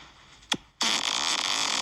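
fart played

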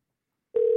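telephone ringing

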